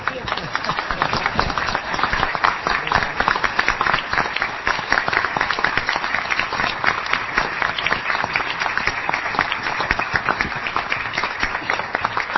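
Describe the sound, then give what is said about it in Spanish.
Around a studio table at the end of a panel discussion, a small group claps steadily for about twelve seconds to congratulate on 100 years, dense overlapping hand claps at an even, lively pace with no pauses, fairly loud throughout. “Creo que esta tertulia tiene que terminar con un aplauso nuestro, ¿no?”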